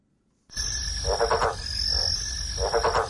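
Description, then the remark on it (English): A yellow-spotted bell frog croaks in three short bursts of rapid, rattling pulses, over a steady high-pitched background hum from the surrounding night. No one speaks. “Yellow-spotted bell frogs were thought to have become extinct.”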